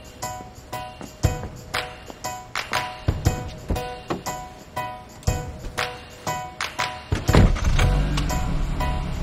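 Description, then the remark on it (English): Someone gets into a car: a run of soft clunks and shuffling knocks, then the car door thumps shut and a low steady rumble settles in. No one speaks. “She smiles and gets in the car.”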